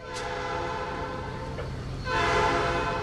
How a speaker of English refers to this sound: One of the last whistle-stop trains in the U.S. rolls through Alaska's interior.